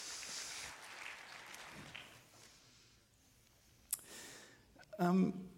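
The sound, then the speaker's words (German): Applause from an audience in a hall, a dense patter of clapping that gradually fades out over a couple of seconds, followed by a single sharp click and a person starting to speak. “Applaus im Saal.”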